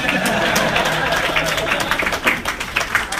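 An audience bursts into steady applause, a dense wash of many hands clapping at once, holding loud and even for a few seconds with crowd murmur mixed in.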